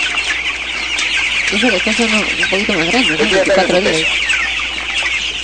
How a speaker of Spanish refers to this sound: Y ahí están los pollitos bebés. Ya hay unos 24 días al domingo, ¿no?